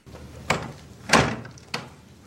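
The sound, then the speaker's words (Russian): A door is pushed firmly shut, a solid thud framed by a lighter knock just before and a latch-like clack just after, with no talking. “плотно закрывает дверь”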